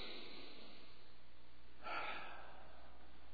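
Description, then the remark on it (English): A church audience, led by the pastor, draws one deep breath together: a short, airy whoosh about half a second long rising out of a quiet, hissy background, with no talking. “Okay, just to take that deep breath with me.”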